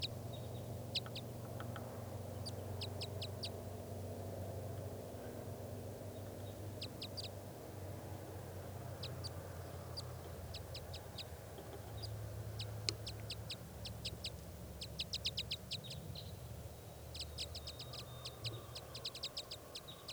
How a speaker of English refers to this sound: The wild birds calling back and forth to one another now, and they just took off far to the north.